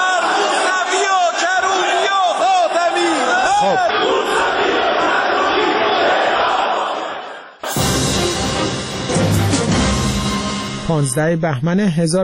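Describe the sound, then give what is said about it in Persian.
A large crowd of lawmakers chants in loud, rhythmic unison, many voices shouting 'Death to Khatami, Mousavi and Karroubi', some demanding their execution, after Gholam-Ali Haddad-Adel's speech against opposition leaders; after a brief dip the chanting resumes even denser and more forceful. “غلامعلی حداد عادل در نطق پیش از دستورش اظهارات تندی را علیه رهبران مخالفان بیان می‌کند و به دنبالش جمع زیادی از نمایندگان حاضر فریاد مرگ بر خاتمی، موسوی و کروبی سر می‌دهند و برخی نیز خواستار اعدام آنها می‌شوند.”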